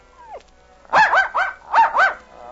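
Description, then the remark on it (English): A small dog lets out a brief, falling whine as it licks the face of its unconscious master, then bursts into five quick, high-pitched barks in frantic succession, loud, with no voices. “He whined as he licked the face of the unconscious master, then barked frantically.”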